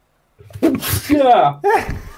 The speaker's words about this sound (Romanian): Stai că strănut.